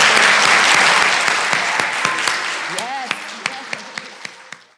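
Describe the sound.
A church audience applauds a former teacher of the church's children and youth with a loud, dense burst of clapping that gradually thins and fades into scattered individual claps, with a faint voice briefly audible partway through.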